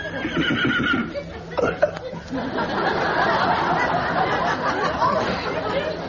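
horse neighing

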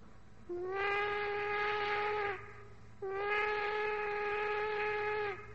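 steam locomotive whistle

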